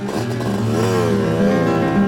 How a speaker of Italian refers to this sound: Una moto si accende e borbotta a tutto gas.